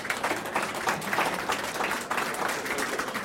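A crowd applauds steadily, the dense wash of many hands clapping filling the whole stretch at a fairly loud, even level, with no voices heard over it.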